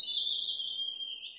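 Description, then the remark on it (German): A small bird sings one steady, high-pitched trill that runs without a break and drifts slightly lower toward the end. It's clear, with no other sounds around it. “oder wie das melodische Zwitschern von kleinen süßen Birds.”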